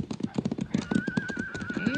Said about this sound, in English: Hey, wait, listen. Yeah, it's a horse. Oh. Must be over at the edge of that ridge.